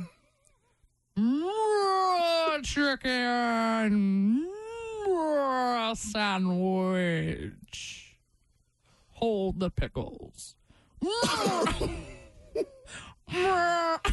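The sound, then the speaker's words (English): A person imitates a cow while trying to order a Chick-fil-A meal, stretching words into a long, wavering moo that slides up and down in pitch for several seconds, followed by shorter bursts of ordinary talking. “You a vampire cow? Like that. Are there cows in Delco? Is that what they sound like?”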